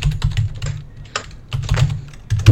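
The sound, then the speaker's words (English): Rapid typing on a computer keyboard with a deep, thumpy bass tone, keystrokes clattering in bursts with brief pauses, fairly loud. “I don't know if you guys can tell, but my keyboard is pretty bassy.”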